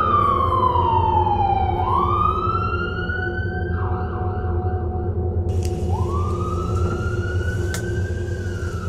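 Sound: ambulance siren wailing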